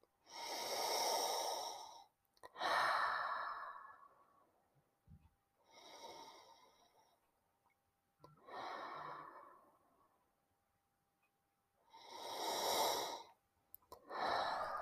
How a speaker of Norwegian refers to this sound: Og så puster jeg inn, tar noen gode, lange, dype åndedrag.